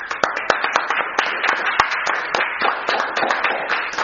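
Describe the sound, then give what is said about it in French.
An audience applauds steadily, many hands clapping in a dense, continuous crackle with a few sharper individual claps standing out, fairly loud throughout and no one speaking. “Alors on les applaudit.”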